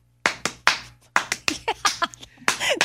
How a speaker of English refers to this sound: That was close. No, it wasn't. It was the right amount of claps.